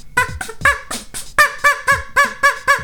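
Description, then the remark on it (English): A voice imitates a duck, making about ten loud, nasal quacks in a quick, steady rhythm, with no other talking. “So I don't know how accurate of an imitation of any particular species of duck this is, but it doesn't matter.”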